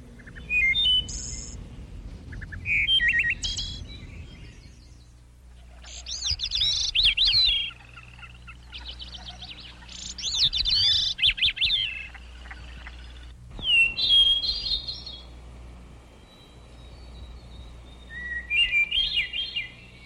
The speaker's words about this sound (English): And the next one is for those listeners who like the birds in the morning.